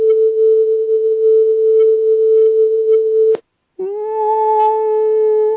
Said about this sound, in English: Another sound I want to play for you are the bees. The bees buzz in the key of A, we found. And the frequency, this is the frequency of the buzzing of the bees right here, 441 hertz.